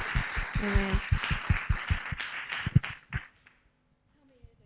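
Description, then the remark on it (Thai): An audience at Rhema Bible Church Bangkok, Thailand, applauds to welcome the pastor's wife as she comes forward to preach, in a dense burst of clapping with steady low thumps underneath. It lasts about three seconds, then dies away quickly into near silence. “Let's welcome her.”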